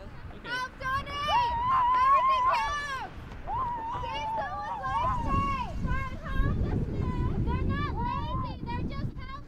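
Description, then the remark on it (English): A group of students on the side of Green Street, holding big 'Help the Homeless' signs, screams and yells at passing cars in overlapping, high-pitched bursts to direct them to a drive-through donation center, while a steady rush of wind and low rumbling traffic noise runs underneath. “To get the car's attention, there was a lot of screaming.”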